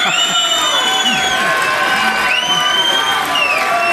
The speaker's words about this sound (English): Wow, what a lively crowd we got here today. I know Yahweh is hearing you.